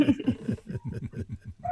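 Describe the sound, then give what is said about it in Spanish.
A neighbor's male dog, left home alone, barks in a quick, steady run of about eight short yaps, moderately loud, with no talking over it. “Bueno, con perro y todo, te estoy escuchando y te estoy siguiendo.”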